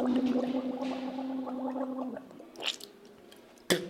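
Tooth-brushing routine in a bathroom: a steady, low-pitched watery gargle lasts about two seconds, then two short wet bursts like spitting or a splash. No one speaks.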